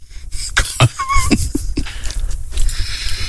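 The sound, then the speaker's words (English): A person coughs several times in short, irregular bursts, with a low background rumble and faint clatter between the coughs. “Coughing.”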